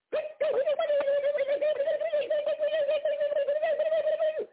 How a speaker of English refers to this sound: What the hell is that? I told you, Mr. Chuck and Harry, sir, it was some birds.